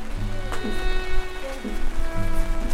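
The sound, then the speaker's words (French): Steady rain that has just started patters across a surface, a dense continuous hiss with faint tonal hum underneath and a few soft low thumps scattered through. “Ça vient de commencer la pluie ou la pluie, ben à l'instant.”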